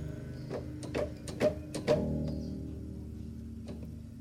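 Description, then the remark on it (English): A creaky door hinge groans and rattles through a handful of loud clicks and knocks, then trails off into a long, fading squeak with no voices. “I think we're still hearing the hinge.”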